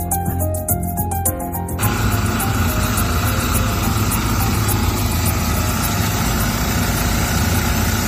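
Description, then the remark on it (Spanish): Heavy industrial pumping machinery runs continuously, extracting fuel from the tanks of a ship run aground in the Bay of Algeciras, with a steady, droning mechanical hum and faint rhythmic clatter, loud, with no voices. “Estás escuchando el sonido de las máquinas de extracción que con buen ritmo han conseguido sacar ya al menos el 80% del combustible que llevaba en sus tanques ese barco que está encallado, que encalló este pasado martes en la bahía de Algeciras”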